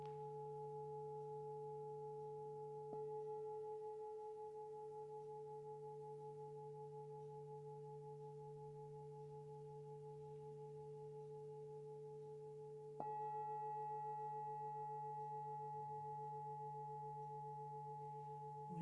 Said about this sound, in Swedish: till tonen och vibrationen. Både i den fysiska kroppen och energikroppen.